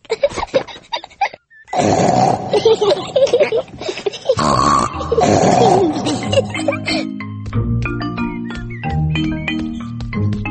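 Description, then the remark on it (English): Voices make loud, rough pig-like snorts in long repeated bursts, then the snorting gives way to light music with tinkling notes. “I want to make big snorts too.”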